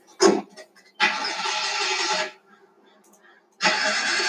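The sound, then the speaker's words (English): A car engine tries to start and fails, with a brief click followed by two long, grinding cranking bursts separated by a pause, the starter churning without the motor catching. “That doesn't sound good. Maybe the battery. Or the starter.”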